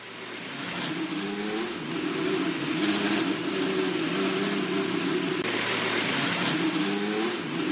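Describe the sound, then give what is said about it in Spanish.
Fernando Alonso's race car engine fires up and settles into a loud, rough, buzzing drone, with a few blips of the throttle surging over the steady roar. No one speaks. “Vamos, que solo lo han arrancado.”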